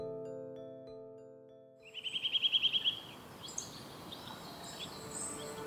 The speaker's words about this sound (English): To you, those birds might just sound like nature in the background. But to the trained ear, that call can mean the difference between life and death. It gives wildlife early warning and saves them from trouble.